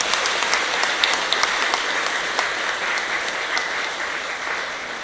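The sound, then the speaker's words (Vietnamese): A crowd applauds the teachers of the Giác Ngộ pagoda classes steadily for about five seconds, a dense wash of many hands clapping at an even, fairly loud level with occasional sharper claps standing out, and no voices. “Xin hãy cho một tràng vỗ tay thật lớn để tán dương.”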